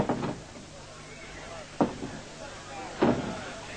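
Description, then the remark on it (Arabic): A door is being opened, with three separate wooden clunks and rattles spaced about a second apart, moderately loud over a steady background hiss. “افتحوا الباب هنا.”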